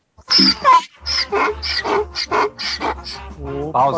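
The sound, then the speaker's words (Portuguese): An owl enthusiast imitates the call of a burga with a quick run of about eight loud, yelping, chattering syllables, harsh and breathy, repeated almost without pause for several seconds. “a gente teve um corujeiro fazendo, assim, uma imitação de burga.”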